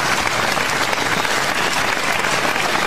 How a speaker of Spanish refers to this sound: Era un aplauso tan en serio la cosa.